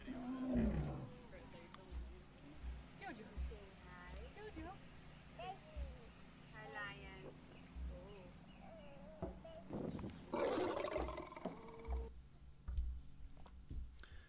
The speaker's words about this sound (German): Ich habe ein Video kurz zu zeigen von einem Löwe.